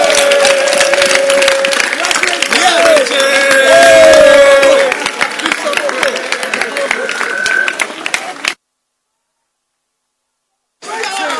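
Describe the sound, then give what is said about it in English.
An audience claps hands in a dense, steady patter mixed with raised voices, continuing for about eight seconds before cutting to silence, then starting up again briefly. “Clap your hands for him.”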